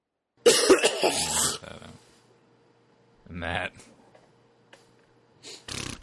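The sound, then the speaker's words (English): A harsh, loud cough from a sick man bursts out, followed a couple of seconds later by shorter throat-clearing rasps and another brief cough at the end, with quiet room tone between. “Yeah, I've got like 30 coughs throughout the course of this podcast that I've got to get rid of.”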